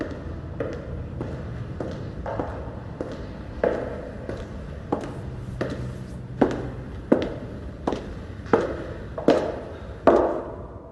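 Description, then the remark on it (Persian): Steady footsteps of boots striking a hard floor, about a dozen and a half even steps that grow louder as the walker approaches. No one speaks. “خب این چکمه ها برای راه رفتن درست نشدن.”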